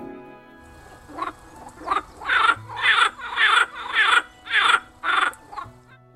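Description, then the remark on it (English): A toad croaks to attract a female at its breeding pond, in a steady series of about eight rasping, pulsing calls, each lasting under half a second, loud with no voices around. “They also return to the ponds where they were born to breed, and try to grab a female's attention by croaking, like this.”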